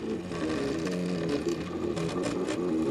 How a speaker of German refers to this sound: Der 3D-Drucker, der Makerbot Cupcake CNC, der arbeitet so schichtweise. Das heißt, erst mit der untersten Schicht fängt er an, dann wird die Plattform abgesenkt, die nächste Schicht wird drüber gedruckt und so wächst das 3D-Modell in die Höhe,